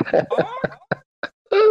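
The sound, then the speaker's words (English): Several people with their microphones on imitate an auk's call together to sign off at the end of a chat: a ragged, overlapping burst of harsh squawks, then a few short scattered squawks and a final drawn-out nasal cry, loud. “Yeah, so if everyone wants to turn their mic on, we can sign off with an awk.”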